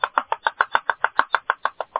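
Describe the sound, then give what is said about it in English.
A fast, steady series of about thirteen sharp knocks, like someone rapping on a door, evenly spaced over two seconds, coming from inside an oven, with no voices. “he runs over there, and he opens the door, and he looks out. There ain't nobody outside, you know.”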